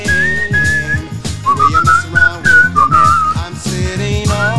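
A person whistles a melody in a clear, sustained tone, the notes gliding up and down, over a backing of music with a steady rhythmic pulse.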